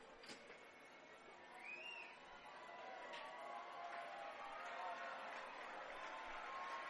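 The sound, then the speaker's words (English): A large stadium crowd at a baseball game cheers during a 2-2 count with the bases loaded in the seventh inning, a broad roar that swells after a couple of seconds and holds steady, with scattered shouts and whistles inside the din. “This crowd is getting into it.”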